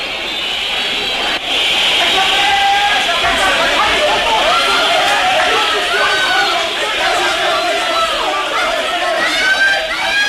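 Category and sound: crowd, crowd shouting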